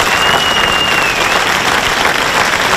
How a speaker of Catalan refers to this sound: I per tant demano un fort aplaudiment per tots ells, perquè de bo sense vosaltres no hi hauria festes d'altura.